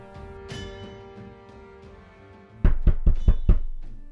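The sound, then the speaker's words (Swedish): A quick, even series of about five loud, hard knocks on a door, following a stretch of quiet sustained tones: Gideon Hazard and seven fellow foundry workers knocking on manufacturer Karlsson's door in spring 1903. “Gideon Hazard och sju av hans kamrater på gjuteriet knackar på fabrikör Karlssons dörr.”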